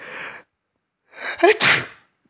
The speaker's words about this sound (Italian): … starnutì.